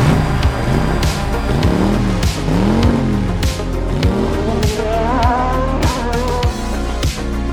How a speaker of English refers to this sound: Drivers, start your engine!